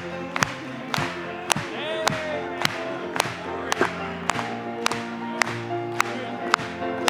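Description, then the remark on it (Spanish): An audience claps in steady unison, a sharp beat roughly twice a second, over a bed of singing voices and sustained music, with a crowd murmur filling the background. “Vamos a aplaudirle hoy.”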